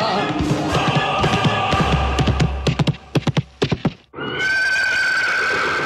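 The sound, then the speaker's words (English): A white horse ridden by Kim Jong-un in a 2019 North Korean film whinnies loudly, then a quick run of sharp galloping hoofbeats pounds as it gallops past the camera, followed by a sudden cut to a steady, dense rushing sound. “Now he's galloping past the camera on a white horse, every close-cropped hair firmly in place.”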